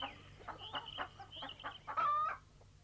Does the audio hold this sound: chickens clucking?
yes